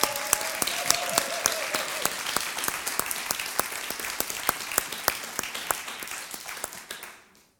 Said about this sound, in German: Ja, wollen wir nochmal einen Applaus geben für Jesus?